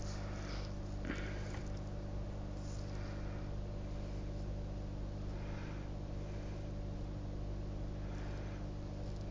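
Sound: car interior ambience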